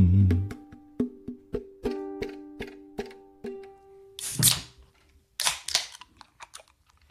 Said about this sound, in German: Prost. Ha, herrlich. Wir haben schon lange nicht mehr mit so einem plumpen Bierdosenöffner angefangen.